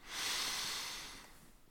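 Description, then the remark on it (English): A single long, steady inhale through the nose during a guided breathing meditation, airy, swelling quickly and then tapering off after about a second with no talking. “Breathing in the landscape around you.”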